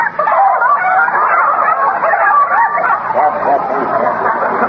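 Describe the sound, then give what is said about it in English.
A flock of chickens in a garden clucks and squawks nonstop, their overlapping calls loud, forming a dense, busy chorus with no pauses. “Oh, say, that's a nice bunch of chickens you've got there.”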